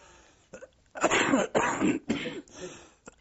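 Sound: cough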